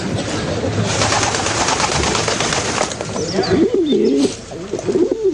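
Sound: pigeon cooing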